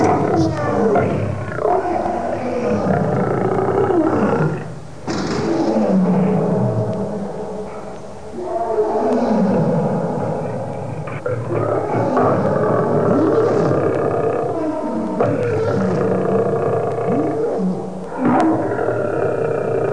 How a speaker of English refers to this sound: When they're angry or agitated, you can hear their roars echo throughout the zoo.